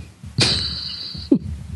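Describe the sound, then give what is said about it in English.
Deep, heavy heartbeat thumps pound out in a slow, steady rhythm, about three beats, with a bright high-pitched ringing tone sustained over the first stretch. No one speaks. “My heart is pounding loud enough for everyone in a 2-mile radius to hear.”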